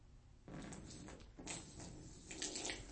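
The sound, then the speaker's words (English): Water pours steadily out of a cup for a couple of seconds, a soft, continuous splashing that begins abruptly after a brief quiet moment, with no talking. “Now, once you do that, you going to be able to put the water back into the cup? No.”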